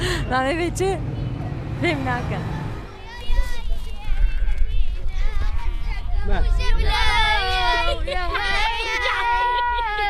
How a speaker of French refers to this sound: Ici, on est dans un camp qui s'appelle Washokani. 16 000 réfugiés vivent ici. Beaucoup de familles, hein, vous l'entendez.